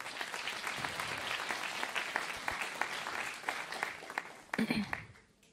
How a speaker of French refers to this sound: Merci beaucoup l'équipe de Louange, on peut les accompagner dans un applaudissement.